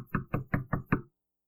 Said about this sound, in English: And so one of the men that worked there at the church would go and knock on the door.